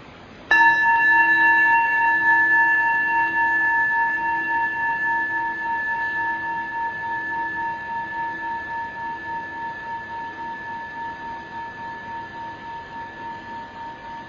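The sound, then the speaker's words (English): A single struck meditation bell rings out with a bright, clear tone and shimmering overtones, sustaining and slowly fading over about fourteen seconds with a gentle pulsing waver. No one speaks. “Listening to the sound of the bell, letting its vibrations send loving kindness to our hearts.”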